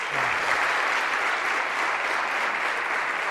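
An audience applauds steadily, a dense wash of clapping hands that holds an even, fairly loud level from start to finish without dying away.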